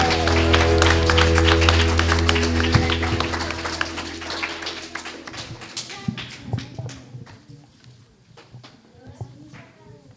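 An audience claps loudly, a dense burst of many hands with a steady low hum underneath, then the applause thins out into scattered claps and fades over the last few seconds.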